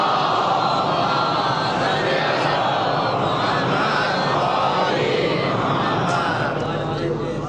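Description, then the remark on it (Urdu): A large audience recites salawat upon Muhammad and the family of Muhammad together in unison, a dense, loud wall of many voices chanting steadily for several seconds with a rolling, murmuring rhythm and no pauses. “اے صلوات پڑھے محمد اور آل محمد.”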